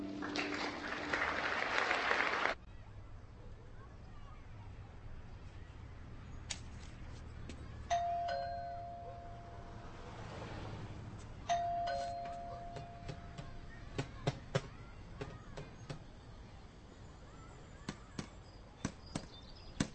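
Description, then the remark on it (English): A doorbell rings twice, each a clear, steady mid-pitched chime a few seconds apart, after a burst of rough noise at the start; scattered sharp clicks and taps follow. “You didn't answer the door.”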